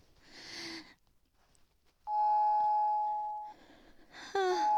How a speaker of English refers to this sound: The doorbell again.